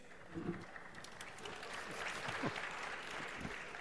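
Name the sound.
applause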